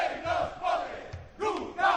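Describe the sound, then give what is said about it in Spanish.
A crowd of firefighters at a peaceful protest rally shouts in front of Palesco, a few metres from the Diputación, with loud massed voices rising and falling in about four rhythmic bursts, like a chanted slogan, and a constant roar of noise between them. “No sé si escucháis los gritos.”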